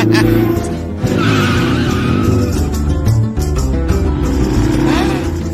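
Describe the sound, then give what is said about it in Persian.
A motorcycle engine roars at high speed during a fast ride while tires skid and squeal, a loud, continuous rush of revving motor and screeching rubber with no talking. “اولین چیزی که خیلی دوست دارم موتور سواریه، اونم سریع.”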